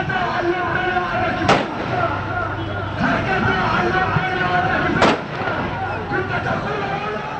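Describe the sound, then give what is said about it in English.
Two sharp gunshots crack out several seconds apart as mourners fire guns in the streets of Gaza City, over a steady outdoor crowd din with many voices murmuring and shouting calls for revenge. “Many shops remain closed for the day as mourners filled the streets with gunfire and calls for revenge.”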